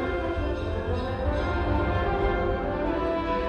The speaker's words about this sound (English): Sounds familiar and specific to the Bay Area and bridge are woven into the texture. You can hear cable car bells.